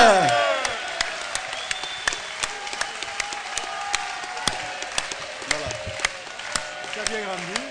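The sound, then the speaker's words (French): A large crowd of supporters applauds steadily ahead of that evening's match, a dense wash of clapping punctuated by sharp louder claps, with voices shouting and cheering mixed in throughout. “Je vous demanderai de les applaudir à nouveau, ça va nous chauffer, on est prêts pour le match de ce soir, on peut les applaudir”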